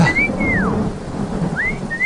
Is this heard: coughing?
no